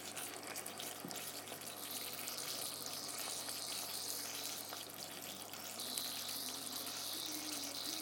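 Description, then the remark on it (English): A pan of chicken masala simmering with a steady, soft sizzle and hiss, dotted with small irregular pops and bubbles. It runs continuously at an even level, with no talking. “And that's the chicken masala simmering away, and oh my god, the smell.”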